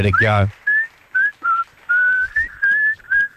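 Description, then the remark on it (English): Someone whistles the whistle break of a song, a short tuneful melody of clear sustained notes with small pitch slides, fairly loud, after a brief burst of voice at the start. “Now, you've got a whistling song for us.”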